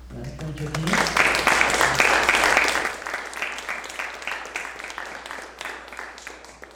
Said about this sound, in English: But perhaps we owe a round of applause